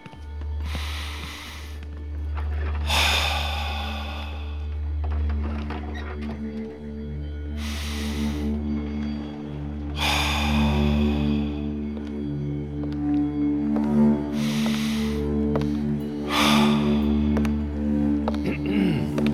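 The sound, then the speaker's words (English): Deep, noisy breaths drawn in and released during a relaxation exercise, about six or seven in a slow steady rhythm, over a constant low droning hum with no talking. “Continue that deep breathing, and I'll be right back.”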